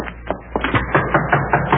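Knuckles rap on a door in a quick, steady run of about eight sharp knocks, fairly loud, with no voices over them; the knocker is a man from the Good Samaritan Finance Company.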